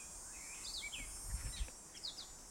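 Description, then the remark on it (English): A gray catbird in a wild field with bushes and tall maples sings a jumble of varied chirps, slurred whistles and short phrases mimicking other birds' songs, fairly quiet over steady outdoor hiss and a few soft low thumps. “The catbird. It's a mimicry of all the bird songs he has heard before, and now, it felt like an echo of my very own song.”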